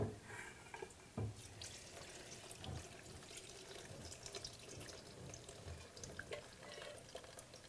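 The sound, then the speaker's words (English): Brewed tea, made on a stovetop, pours steadily into a blender, about 2 cups' worth, a continuous splashing trickle with a few sharper splashes and gurgles, heard alone without voices. “I'll just pour that in.”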